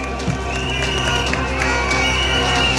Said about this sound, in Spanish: Que se escuche hasta la moneda. Este es el aplauso al discurso de la CUT, la Central Unitaria de Trabajadores y Trabajadoras.